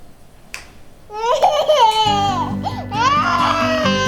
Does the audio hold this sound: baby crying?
yes